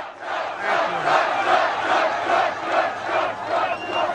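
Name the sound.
rally crowd cheering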